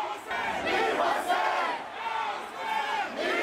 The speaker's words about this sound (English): People were able to gather, demonstrate, and chant slogans, even slogans that were very taboo just 8 years ago.